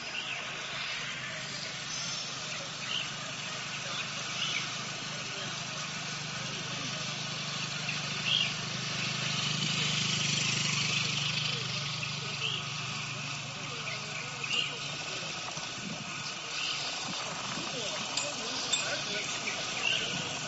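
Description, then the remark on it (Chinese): Bicycle riding at a 'Walk into the Beautiful Countryside' cycling event: steady rushing wind and a continuous whirring bicycle chain, with faint bird chirps scattered throughout and a few brief bicycle bell rings near the end. “有鸟鸣，有风声，有车链子的转动声，还有贱货其间的车铃响。”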